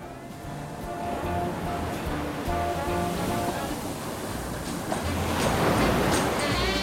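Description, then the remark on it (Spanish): Steady ocean surf washes in and out, a broad rushing noise that swells louder toward the end as a wave breaks, with faint tonal hum in the background. “Federico salta a las olas y ya está adentro del mar.”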